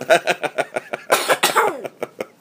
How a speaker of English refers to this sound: Yeah, cover your mouth when you cough. Cover your mouth when you cough.